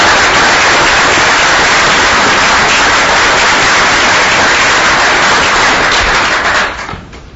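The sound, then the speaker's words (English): A sustained round of audience applause at a board meeting, in appreciation of two members' years of service on the board; dense and steady clapping from many people, then tapering off quickly near the end. No one speaks over it. “I'd also like to say at this time, let's extend applause of appreciation to”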